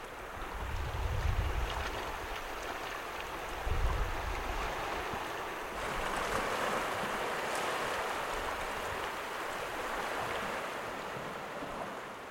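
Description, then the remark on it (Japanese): Ocean waves wash steadily onto a beach at Kikaigaura in Shimoda, Amakusa, Japan, in a broad, continuous roar, with a couple of deep surges early on and gusty wind buffeting the microphone. No voices are heard. “波の音が聞こえますか？私は天草下田の機械ヶ浦に来ています。目の前には大きくて綺麗な海が広がっています。”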